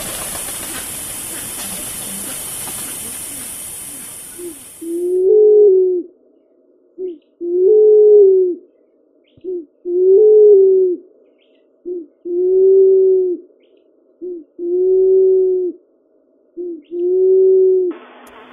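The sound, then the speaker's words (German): Pink pigeons on a small island of Mauritius coo in a steady series of six or seven low, hollow calls, each a short note followed by a longer one, clear after a brief burst of hissing noise. “Dafür sind jetzt an die 30 Rosentauben auf der Insel.”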